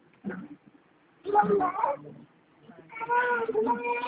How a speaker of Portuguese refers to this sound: Aqui, aí. É o gatinho.